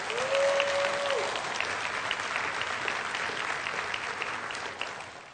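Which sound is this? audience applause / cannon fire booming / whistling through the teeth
audience applause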